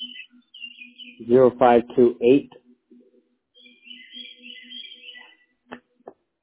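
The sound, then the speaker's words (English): Birds chirp and tweet faintly outdoors on a wooded property surrounded by trees, in scattered high-pitched bursts over a low steady hum, with a brief stretch of voice partway through and a couple of sharp clicks near the end. “And those birds sound amazing.”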